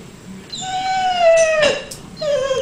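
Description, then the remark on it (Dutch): A dog whimpers in high, drawn-out squeaky whines, two long sliding cries with a brief yelp between them, fairly loud with no one talking. “Ja, dit is eigenlijk eerder wat piepen.”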